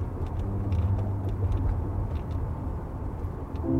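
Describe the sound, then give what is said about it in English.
Steady low road rumble of a car cruising along the river on Highway 14, heading east on the Washington side, around midnight; a continuous droning hum with faint whooshing tire noise and no voices, holding an even loudness throughout. “I hear her voice in my head when I drive along the river, as I am now on Highway 14 heading east on the Washington side.”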